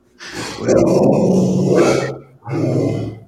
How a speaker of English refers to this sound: What the hell was that? You got a dog?